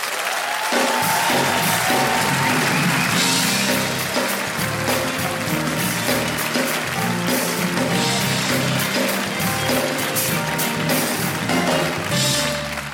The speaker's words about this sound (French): Il a accepté, je sais pas pourquoi, moi j'aurais dit non, d'accord ? Mais il a dit oui, donc applaudissez-le, monsieur Thomas Wiesel.